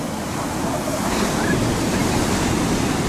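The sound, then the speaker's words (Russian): Ocean surf washes onto a beach in a steady, fairly loud roar, with some wind buffeting mixed in and no voices. The ocean water is about 15–16 °C. “Вот так выглядит пляж со стороны моря, океана.”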